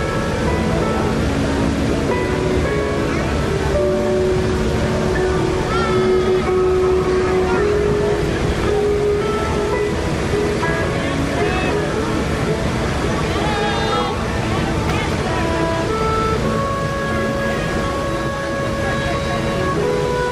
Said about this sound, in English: As the canoe goes by.